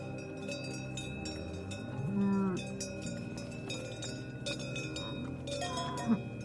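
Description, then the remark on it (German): Many Alpine cowbells clank and ring at once in an irregular, overlapping jangle, held at a steady moderate level with bright metallic tones and a brief low swooping sound partway through. “Das ist das Bimmeln von Kuhglocken, begleitet von dem Duft nach einer Frühlingswiese und absoluter Freiheit.”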